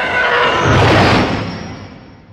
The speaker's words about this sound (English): The TIE Fighters are one of my favorite sounds in Star Wars. I mean, talk about like an emotional, gripping spaceship sound. That spaceship is an enemy spaceship. That's not a friendly spaceship. It's roaring at me.